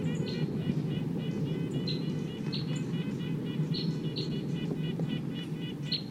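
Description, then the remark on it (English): A wild bird calls repeatedly with short, high, thin chirps at irregular intervals, heard over a steady low rumble of background noise. “The wild bird sounds almost like 258.”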